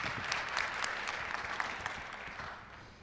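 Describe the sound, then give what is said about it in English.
An audience claps steadily for a few seconds, a dense patter of many hands that fades slightly toward the end, as a speaker gets up to say a few words. “you might even get another round of applause.”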